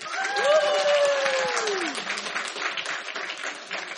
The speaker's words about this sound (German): Richtig! Ein Applaus!